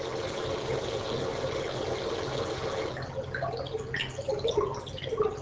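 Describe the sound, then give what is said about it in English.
A synthetic water sound, a chimera stimulus with switched parameters, alternates textures: water sound gives way to a dense, hissy, static-like stretch, then returns to sparser bubbling and dripping water with different parameters. Steady and moderately loud, with no voices. “So at first you heard water sound, then it switched to a kind of more staticky sound, then it switched back to water sounds, but with different parameters.”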